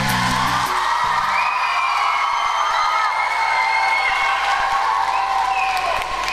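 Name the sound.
audience applause and cheering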